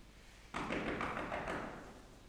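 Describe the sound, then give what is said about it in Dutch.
A quick run of about seven firm knocks by a postman on a closed door, evenly spaced, with a dull resonant body that lingers briefly after the last rap. No voices. “Volgens mij zijn ze zo druk bezig met de voorbereidingen dat ze mij niet eens horen.”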